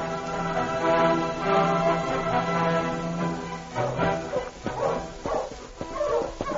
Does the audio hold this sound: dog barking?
yes